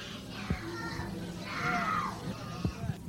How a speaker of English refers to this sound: I tell you, I don't care how many screams you hear, I don't care how many anguished cries, death is a million times preferable to 10 more days of this life.